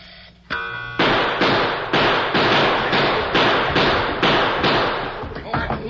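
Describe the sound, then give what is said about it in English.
A brief ringing tone gives way to a rapid, steady volley of about ten loud gunshots as two men in a gunfight empty their guns at each other, each a sharp crack that fades quickly before the next, with no voices. “Why, they killed each other. Empty their guns.”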